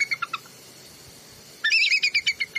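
A bald eagle's thin, high-pitched chattering call: a few quick squeaky notes, a short pause, then a longer rapid run of piping chirps, clear with no talking.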